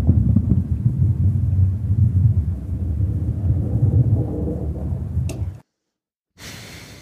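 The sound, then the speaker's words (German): A bowling ball rolls down a lane with a deep, steady rumble for several seconds, ending in a short sharp clatter, then brief silence before a faint noisy tail. “sagen musst du nicht mehr abspielen, Bowlingkugel. Eine Bowlingkugel, genau.”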